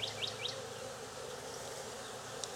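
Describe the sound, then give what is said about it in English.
A dense, steady drone of many festooning honey bees buzzing together, unbroken for the whole moment, with a few quick high chirps near the start and no one talking. “I could put a frame in there for these festooning bees to latch onto and shake them through here one by one.”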